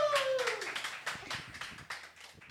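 Steady, dense applause from a group, many hands clapping close together for a couple of seconds, with a brief falling vocal cheer at the very start.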